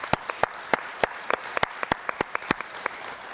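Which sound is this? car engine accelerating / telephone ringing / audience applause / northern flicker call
audience applause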